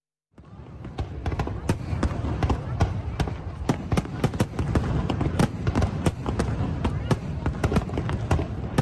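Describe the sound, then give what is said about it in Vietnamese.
Rapid, irregular bangs and crackles of high-altitude fireworks over the Saigon River tunnel in Ho Chi Minh City, marking the 49th anniversary of the liberation of the South, burst continuously over a dense, roaring crowd murmur of thousands, loud, with many sharp pops overlapping throughout. “Tối qua, thành phố Hồ Chí Minh tổ chức bắn pháo hoa chào mừng 49 năm ngày giải phóng miền Nam thống nhất đất nước.”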